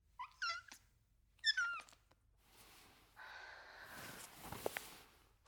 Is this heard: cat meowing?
yes